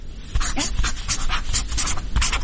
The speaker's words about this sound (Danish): Jamen, jeg tror, det er en tus, der skriver på et stykke papir.